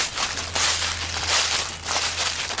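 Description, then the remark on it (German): Footsteps crunch and rustle through dry autumn leaves in a steady walking rhythm, each step a crisp burst of crackling, with a faint low hum underneath and no talking. “Aber dieses Blätterrascheln im Herbst ist schon auch toll.”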